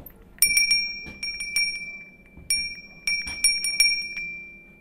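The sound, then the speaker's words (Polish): A small sleigh bell rings repeatedly in quick bursts of bright, clear metallic strikes, a few quick dings in each burst, fairly loud with no voices. “To jest oryginalny dzwoneczek z tych zdań?”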